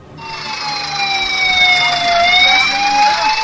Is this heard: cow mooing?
no